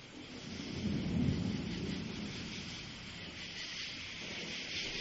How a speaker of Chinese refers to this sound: 拜托拜托，不要再打雷了啦，我好害怕哦。